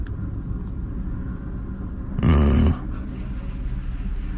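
A helicopter passing overhead on its way to Rigshospitalet: its low, steady rumble drones throughout, swelling into a brief louder, buzzing surge midway before settling back to the same throbbing hum.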